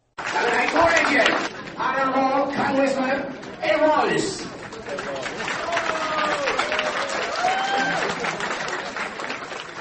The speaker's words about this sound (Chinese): 罗伊斯特地到民进党美西党部的欢迎参会上跟苏贞昌打招呼，受到会场300多位民进党支持者的鼓掌欢呼。